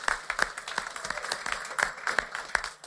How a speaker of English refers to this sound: Let's give a round of applause to our staff over there for taking care of everybody.